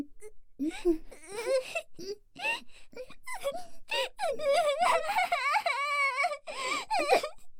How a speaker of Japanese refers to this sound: 泣いてる？なんで泣いてるのさ。